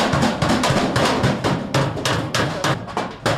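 A hammer pounds metal in a blacksmith's forge with rapid, loud, ringing blows, roughly four or five strikes per second, continuing steadily without any voices.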